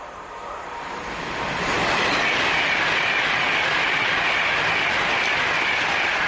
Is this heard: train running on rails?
yes